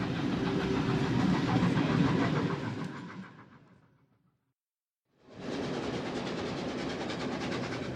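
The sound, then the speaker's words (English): A steam train rumbles steadily along the rails with a rhythmic clatter, loud, travelling through Staines toward Virginia Water on a route bound for West Brompton. The sound fades away to silence, then abruptly returns at full volume with no voices. “It's just the motion and the workings of the steam engines and just seeing these magnificent creatures trundling along.”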